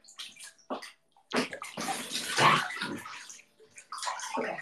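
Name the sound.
water sloshing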